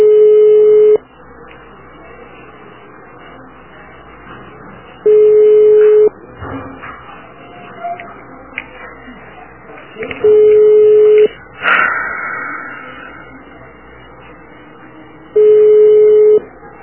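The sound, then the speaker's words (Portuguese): A telephone ringback tone repeats four times, each steady one-second beep followed by about four seconds of quiet line, with faint background noise between rings and no one picking up. The call has been transferred by an automated menu to a medical exam clinic. “Não atende o telefone?”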